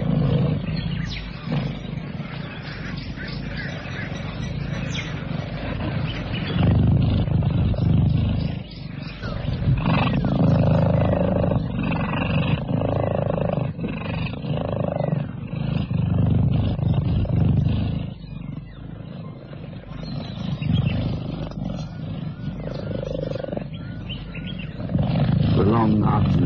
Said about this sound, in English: Beneath a tree on the water's edge, a family of cheetahs purr contentedly.